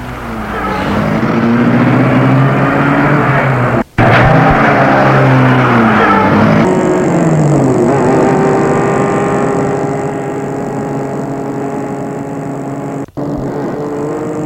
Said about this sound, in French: Elle ouvre la portière, le fait entrer à côté du chauffeur, et elle entre dans sa voiture et la met en route.